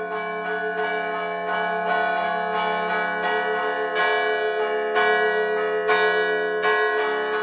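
Church bells ring out in a lively carillon pattern, with repeated bright strikes every fraction of a second over a sustained, resonant hum of overlapping tones. It's loud, with no voices.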